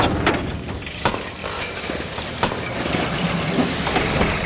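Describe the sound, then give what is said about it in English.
A truck engine breaks down with rough, sputtering mechanical noise, scattered clanks and rattling clicks over a steady grinding rumble, moderately loud, with no one speaking. “You broke your truck again.”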